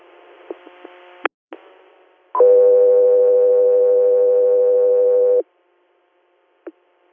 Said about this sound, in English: Air, stand by for tones.